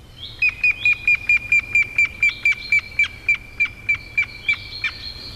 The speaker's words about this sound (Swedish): Här kommer gråspetten.